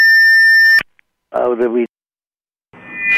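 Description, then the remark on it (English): A loud, steady electronic beep signalling that time is up holds for nearly a second and cuts off sharply. After a pause, a brief burst of voice is heard, then a second tone starts near the end. “That's the beep from the eye in the sky that tells us that we're out of time.”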